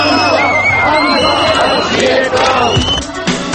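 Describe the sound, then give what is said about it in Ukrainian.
A loud crowd of street marchers in the Czech Republic on Freedom Day shouts and chants at President Klaus, some shouting "Don't disgrace yourself", others "Long live Klaus". Many overlapping voices form a dense, continuous roar with sharper yells rising above it throughout. “Коли одні учасники вуличних походів кричали президенту Клаусу «Не ганьбися», інші «Хай живе Клаус».”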